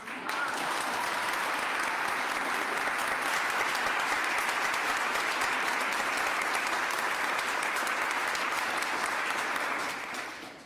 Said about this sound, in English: How about, and I rarely say this, how about a round of applause for our preacher today?